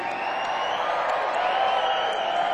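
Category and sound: crowd, audience screaming and cheering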